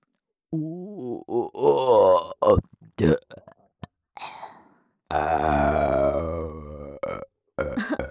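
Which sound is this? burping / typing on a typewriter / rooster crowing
burping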